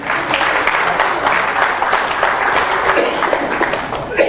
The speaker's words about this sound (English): Wasn't that sweet of my mother to do that? Give her a hand of applause, huh?